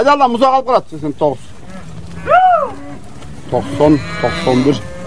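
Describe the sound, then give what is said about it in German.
Several cows moo in succession, long drawn-out lowing calls with some overlapping, moderately loud, with short pauses between them and no one talking. Herders have driven the cows down into a valley among mountains. “Die Hirten dort haben die Kühe bereits ins Tal hinuntergetrieben, aber vergessen, wie viele Kälber dabei waren.”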